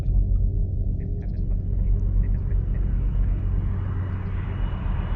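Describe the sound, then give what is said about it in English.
An aircraft engine idling, a steady, continuous low rumble with a dense drone and faint higher whine, holding even in loudness throughout with no voices. “Now the one thing I notice, I've been sitting here idling with the engine on.”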